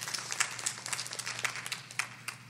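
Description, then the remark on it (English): An audience at a workshop applauds itself for its service and commitment, with many hands clapping in a dense, irregular patter that holds steady throughout, with no voices on top. “So look around and applaud yourselves for the level of service and the commitment that you're all given.”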